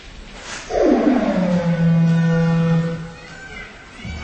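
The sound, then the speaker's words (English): A single long, low moo from a cow in a kitchen at milking time, starting slightly higher, sliding down and holding a steady droning tone for about two seconds before fading, loud and clear over a quiet background. “That was a cow in the kitchen, by the way.”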